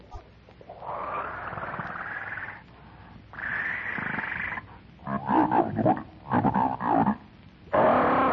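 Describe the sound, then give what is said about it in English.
A monstrous, red-haired ape jabbers gutturally through thick, slavering lips in loud bursts of throaty grunting and growling, first in long sustained stretches, then in choppier, rapid snarls with brief pauses between. “Jabbering gutturally through thick, slavering lips, the monstrous ape reaches out a hairy arm and paw and grasps Wolf for the back of the neck.”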